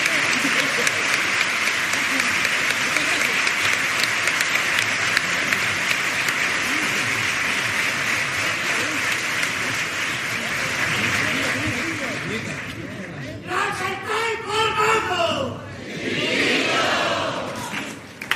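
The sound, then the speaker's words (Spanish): A crowd breaks into loud, dense applause for a second pasodoble verse, holding steady for roughly thirteen seconds, then thins out as a man starts talking over the last of the clapping. “sonoro aplauso a esta segunda letra de Paso Doble”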